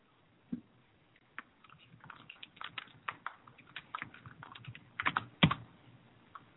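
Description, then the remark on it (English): Rapid, irregular clacking of keys on a computer keyboard as someone types a tweet, a steady run of light taps with a few sharper, louder strikes near the end, no voices. “I'm tweeting it too.”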